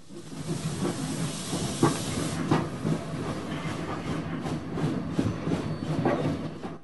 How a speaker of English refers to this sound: As the train pulls out of Weirwold, William waves as he glimpses back at Tom, who returns his wave.